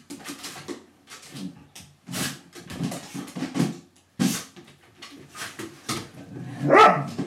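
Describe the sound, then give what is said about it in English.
A wet, fluffy female dog barks and yips happily and repeatedly in short, excited bursts, with one louder, higher bark near the end; no one speaks. “Was this happy barking?”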